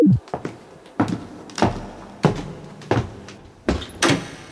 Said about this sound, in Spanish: Abre esta pequeña puerta